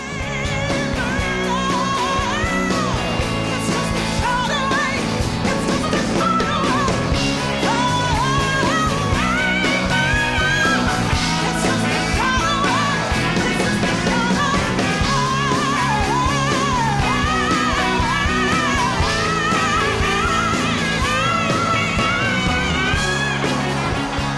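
A loud live rock song plays steadily for the whole stretch, dense guitars and drums driving under a soaring, wailing female vocal that slides and bends above the band.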